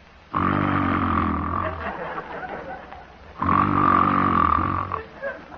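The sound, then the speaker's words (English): Two long, rasping snores imitated by a human voice, demonstrating the basic, ordinary common or Pullman car snore, each a deep rattling drone lasting a few seconds, fairly loud with a short pause between them. “In discussing the human snore, or what we call in scientific terms, soft palate calisthenics, I need scarcely point out that the basic snore is the common or Pullman car form, sounding like this.”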